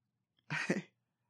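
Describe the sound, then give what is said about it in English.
A single sharp sneeze bursts out, a brief noisy blast with a breathy, voiced edge, set against otherwise quiet surroundings. “I just sneeze again.”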